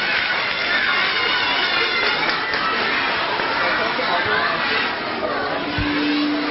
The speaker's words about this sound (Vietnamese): A Di Đà Phật xin toàn thể cho một tràng pháo tay để cổ vũ tinh thần.